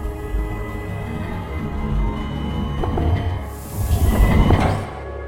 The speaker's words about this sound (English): there was a hiss as the separation door opened, slowly at first, but soon gained speed and revealed the death inside the chamber.